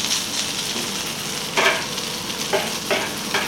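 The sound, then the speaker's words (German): Shawarma sizzles steadily as it is roasted again on a hot griddle, a constant crackling hiss with a few sharper scraping bursts mixed in, fairly loud with no voices. “Aha, die wird jetzt noch mal geröstet. Man hört es brutzeln.”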